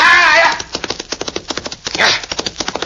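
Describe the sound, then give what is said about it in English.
The horse Diablo gallops in pursuit of another horse, hooves in a quick, steady drumming rhythm, fairly loud, with a brief high, wavering whinny-like cry at the start and another short burst partway through. “Now, show me you can catch that other horse.”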